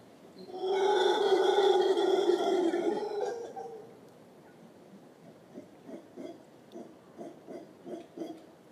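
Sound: monkeys calling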